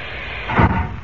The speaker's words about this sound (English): But when I press this white button on the panel, compressed air forces the water out of the chamber and closes the outer door at the same time.